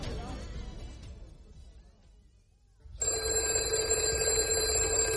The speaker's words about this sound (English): Answer the bloody phone! There you are. It's stopped now